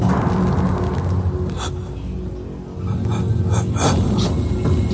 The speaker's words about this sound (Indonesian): aku mendengar seperti suara nafas yang berat yang terdengar jelas dari arah atas atap kamarku.